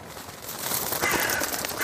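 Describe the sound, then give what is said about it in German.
Harsh, raspy raven caws overlap in a steady stream, growing louder after the first moment and staying prominent, with no voices present. “Auch die Raben haben den Teer und die Süße in der Luft gerochen.”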